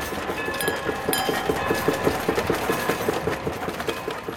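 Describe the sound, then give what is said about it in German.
A train rumbles past steadily, its wheels clacking in a quick repeating rhythm over a broad, continuous roar, with faint metallic squeals above. No one speaks. “Hin und wieder fuhr ein Zug vorbei.”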